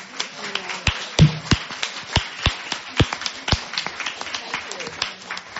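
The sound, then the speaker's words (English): Scattered audience applause for staff from the Department of Rehabilitation: a few people clapping in an irregular rhythm of sharp, crisp claps, moderately loud, with some sounding out louder than the rest over a faint background murmur. “So can I ask the staff from the Department of Rehabilitation who are here right now, could you raise your hand and stand up and let me applaud and bow to you?”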